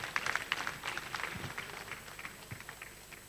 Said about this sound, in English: Please, I think we can clap louder, please.